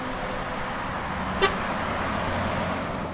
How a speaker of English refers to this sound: In essence, it is busy, fast-moving, and jammed with traffic at rush hours. If you are looking for this location on the map, it is where Roadway 8 and the 608 collide, just north of the Bulkova Hospital.